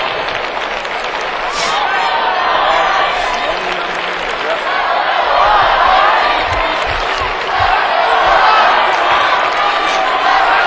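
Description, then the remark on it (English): A cheering section in a large crowd roars and cheers steadily throughout, a dense wash of voices with occasional dull thumps underneath, swelling slightly louder toward the end. “Cheering section going for one of those.”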